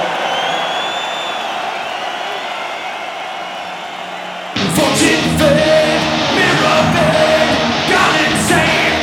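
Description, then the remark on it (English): A large concert crowd roars and yells together as loud as it can in a contest against the PA system, a sustained wall of shouting that suddenly surges even louder about halfway through and stays intense to the end. “Now we're gonna have a little contest. Do you think you're loud? We shall see. It's you against the PA, okay?”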